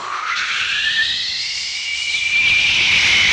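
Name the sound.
jet engine roar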